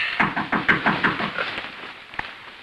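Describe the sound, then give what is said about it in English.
A quick run of about half a dozen rhythmic knocks on a door, fading toward the end, then a single sharp tap after a short pause. No one speaks. “Did you hear a knock?”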